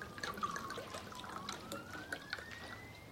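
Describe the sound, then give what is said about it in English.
Wine from a bottle trickles steadily into a glass beside a hospital bed on Christmas Day, a continuous liquid pour whose pitch slowly rises as the glass fills, lasting a few seconds with no voices. “She pours the wine.”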